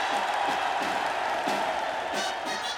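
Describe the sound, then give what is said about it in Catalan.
A large crowd in the Plaça Vella of El Vendrell erupts in sustained cheering and applause as the enxaneta crowns a human tower (castell), a dense wash of clapping and shouting voices filling the square, loud and continuous throughout. “Les gralles, el timbal, el silenci de la gent mentre l'enxaneta es va enfilant pel castell fins a coronar-lo i la plaça esclata en aplaudiments.”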